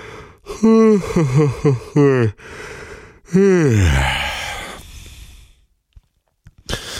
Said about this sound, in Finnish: Siispä aloitamme parilla oikein komealla haukotuksella.